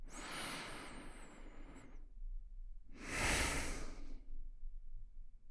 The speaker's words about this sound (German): In meiner Ausatmung merke ich schon, oh, der ist nicht ganz ruhig, der Atem, der ist oh, aufgeregt.